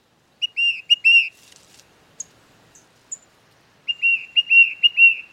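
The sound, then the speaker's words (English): A tufted titmouse, a small gray songbird, whistles its song: two bright bursts of four or five quick, repeated slurred notes, separated by a short pause with a few faint chips, and no voices. “It turns out that the tufted titmouse, a small gray songbird, is often the one leading the flock.”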